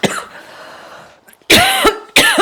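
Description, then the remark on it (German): A person coughs hard several times after choking on water: a short cough, a pause, then two loud, harsh bursts in quick succession, with no talking. “Ich habe mich verschluckt am Wasser.”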